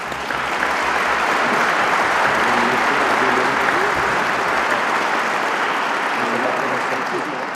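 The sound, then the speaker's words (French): Sustained applause from a large audience for prize winners who have been asked to stand, a dense steady crackle of many hands clapping at even loudness for several seconds, with faint voices murmuring underneath. “Je demande aux lauréats de bien vouloir se lever et je vous demande de les applaudir.”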